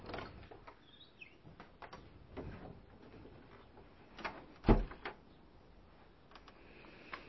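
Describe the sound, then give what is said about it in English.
A front door opens with a short clatter and a solid thump near the middle as someone walks outside on a sunny, warm fall day, while faint birdsong chirps in the background throughout. “I'm going to walk out my front door.”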